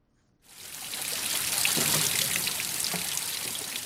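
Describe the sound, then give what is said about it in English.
Spring water flowing down from Table Mountain pours and trickles steadily through grey metal pipes at Spring Road in Newlands, Cape Town, during a drought, after a brief silence; a continuous splashing hiss with small bubbling dribbles running underneath, no voices present. “Despite the drought, the spring water hasn't stopped flowing down nearby Table Mountain.”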